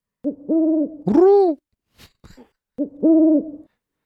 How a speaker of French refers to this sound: C'est quoi ce pigeon frileux, là ? Hein ?